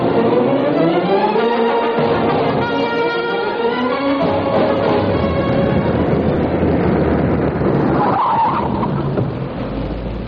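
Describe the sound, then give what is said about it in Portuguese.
A car brakes hard, its tires squealing in long, wavering skid tones over loud engine and road rumble, then slows and comes to a stop at a roadside hotel. No one speaks. “Fez bem em parar, São Amadeu.”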